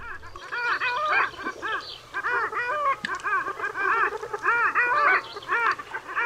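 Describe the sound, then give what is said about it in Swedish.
A dense chorus of long-tailed duck drakes giving their spring display calls, overlapping yodelling, gliding notes from many birds at once, loud and continuous with no pauses. “Och så här låter alfåglar.”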